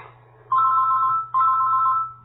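A phone ringtone sounds twice, each a steady electronic tone lasting under a second, fairly loud over a low background hum.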